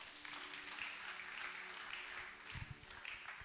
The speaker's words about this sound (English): Clap your 2 hands together.